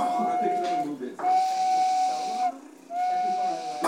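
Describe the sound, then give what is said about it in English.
A detailed carved wooden whistle shaped like a De Havilland Beaver airplane, carved by a longtime pilot, is blown three times in long, breathy blasts, each holding a single steady pitch over a rush of airy hiss, with brief pauses between. “Longtime pilot Eddie Clark carved a detailed De Havilland beaver whistle.”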